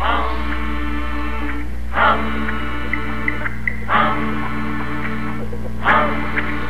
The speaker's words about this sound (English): Everybody hum as we take our seats. Go! Hum. Hum.